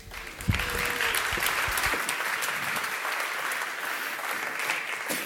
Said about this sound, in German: Einen großen herzlichen Applaus bitte.